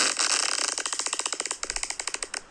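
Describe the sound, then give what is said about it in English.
A mouth-made fart noise: a steady raspy buzz that breaks into a quick series of crackling pops with short gaps between them, ending in a few separate sputters. “See. I have gas.”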